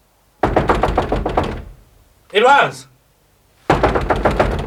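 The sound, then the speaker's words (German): Two bursts of rapid, loud pounding on a locked boudoir door, about a dozen hard knocks each, separated by a brief shouted call from a voice in between. “Eloise, mach auf! Was willst du noch? Schließ die Tür auf”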